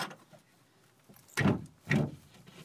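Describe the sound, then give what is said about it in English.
After a quiet moment, a door at the end of a tight passage is unlocked with a key and pushed open, with two short, loud mechanical scrapes and clunks about half a second apart. “And then right up ahead, here's the door. Let's see. Got the key that the guard gave me.”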